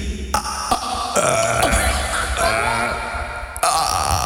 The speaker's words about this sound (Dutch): Op 1, 2, 3 gaan we proberen om te boeren op commando. 1, 2, 3.